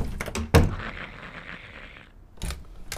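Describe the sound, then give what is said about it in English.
A house door shuts with a single heavy, loud thunk, followed by a lingering hiss of background noise and another duller bump near the end. No one speaks. “This is a door.”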